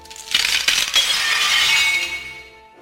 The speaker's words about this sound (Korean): 이때 장식장 유리가 깨지는 소리가 들렸다.